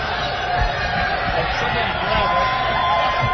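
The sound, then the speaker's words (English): A crowd roars steadily throughout, a dense wall of many voices yelling and cheering at once, loud and continuous with no single voice standing out. “Watch them yell.”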